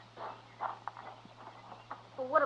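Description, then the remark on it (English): Slow, uneven clip-clop of a lame horse's hooves plodding along at a walking pace, fairly quiet, over a low steady hum with no one speaking. “My horse is lame, but I'll get you home on him.”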